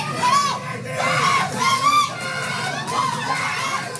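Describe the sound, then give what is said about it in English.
Jasmine Camacho-Quinn's family cheer and scream in excitement back home as they watch her win the 100-meter hurdles gold medal, high voices shrieking over a loud, continuous roar of overlapping shouts that surges and peaks in bursts without letting up. “This was a big comeback for her after she crashed in the same race back in 2016 in Rio, and I have to share with you the video of her family watching her win back home.”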